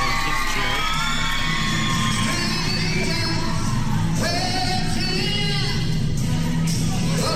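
A crowd cheers and shouts continuously, with high whoops and yells rising over a dense roar of many voices, staying loud and steady throughout.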